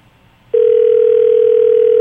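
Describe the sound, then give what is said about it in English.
A phone line rings on an outgoing call: after a brief hiss of quiet line noise, a loud, steady single-pitched tone starts and holds unbroken to the end, with no voices. “It's ringing.”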